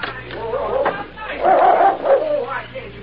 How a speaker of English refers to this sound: tell your mutt to quiet down. Quiet now.